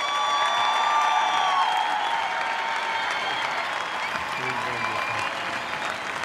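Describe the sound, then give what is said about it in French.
At the Marrakech du Rire, a large audience gives loud, sustained applause for Jamel's birthday, with cheers and whistles mixed in. A dense wash of clapping fills the whole stretch and eases slightly toward the end. “Tout ce qu'il a fait en France, je pense qu'il mérite vraiment un tonnerre d'applaudissements et que tout le monde se lève pour Jamel.”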